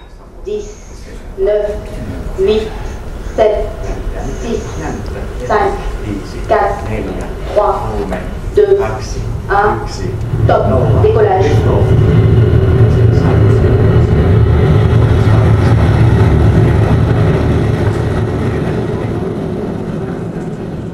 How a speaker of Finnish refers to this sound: Kajan laukaisu onnistuu hienosti. Noin 2 minuutin kohdalla irtavat ensimmäisen vaiheen moottorit, tieto saadaan vielä toisen ja kolmannenkin vaiheen ja suojakuoren onnistuneesta irtoamisesta.